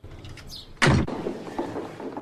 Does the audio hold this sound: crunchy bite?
no